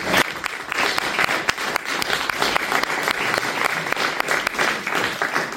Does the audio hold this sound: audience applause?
yes